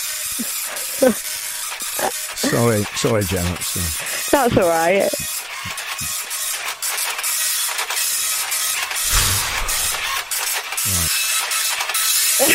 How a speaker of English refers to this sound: Yeah, I'll just press print. You just got to print out the score. It's quite a slow printer, I'm afraid. It's a really slow printer. It's an old one. It's printing out the scores now.